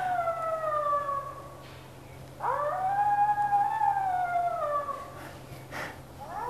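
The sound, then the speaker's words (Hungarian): A three-month-old wolf pup howls in two long, wavering calls, the first fading out and the second rising then sliding down, thin and slightly unsteady, with a faint steady hum underneath. “Itt van most egy 3 hónapos farkaskölyöknek az üvöltése, ami látszik, hogy ugye itt még sem tüdőben, sem így dallamban még nem annyira tudja követni a felnőttek ordítását, de azért így lelkesen próbálkozik.”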